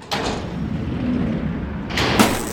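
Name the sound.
door opening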